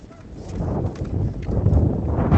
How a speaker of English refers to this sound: You can hear, I mean, if you can't hear the wind, I don't, maybe you just turned us off for a second there, but I mean, it is gusting like absolutely crazy here. Trees are blowing all over the place.